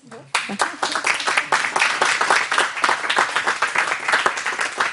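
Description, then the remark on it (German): A crowd in Rapperswil-Jona breaks into sustained applause for the people at the table, many hands clapping in a dense, steady patter that holds at a fairly loud level throughout. “Und ich glaube, diesen Leuten am Tisch geben wir einen Applaus.”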